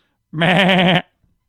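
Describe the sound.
A single loud bleat lasting well over half a second, quavering and nasal, made by a human voice mimicking a goat, then silence.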